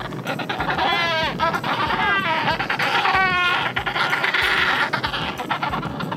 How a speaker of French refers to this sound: le cri que tu as entendu, c'est celui du manchot d'Adélie